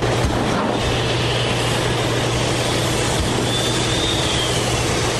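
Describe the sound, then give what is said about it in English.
Giant iron ore processing machines inside the huge processing facility of the 40-year-old Tilden mine, run by Cliffs, rumble and rattle in a loud, unbroken industrial roar over a steady low hum, with a faint high whistle rising briefly near the end. “Inside that hot, dirty, and deafening building, giant machines rumble, rattle, and whistle.”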